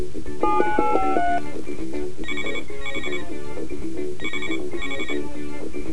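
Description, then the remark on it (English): A telephone call to a police station in Tokyo rings with bright, electronic tones: a brief rising melodic jingle, then repeated short rings arriving in pairs at a steady rhythm, fairly loud, with no talking. “Okay, first, let's call a police station in Tokyo.”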